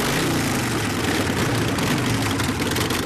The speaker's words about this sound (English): A couple dozen Chinese guys dressed in black leather park their Harleys.